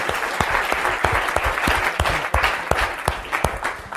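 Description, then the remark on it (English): An audience claps for the storytellers, the dense patter of many hands steady, with a few sharper, louder claps standing out, sustained throughout with no talking. “How about a round of applause for all of our storytellers?”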